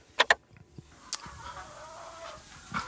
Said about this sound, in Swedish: Höns.